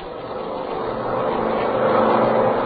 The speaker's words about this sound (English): An army plane was waiting for us. And just at dawn, we took off for White Sands.